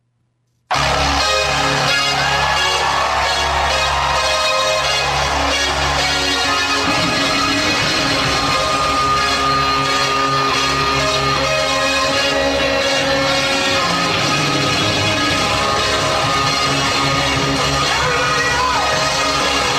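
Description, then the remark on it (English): After a brief silence, a loud, dense synthesizer passage plays slightly sharp and off-key because it was accidentally run at 48K instead of 44.1K, about 1.5 semitones off, with sustained chords over a heavy bass drone that shifts partway through. “And let's go ahead and hear what happens when you accidentally run the synth at 48K instead of 44.1K.”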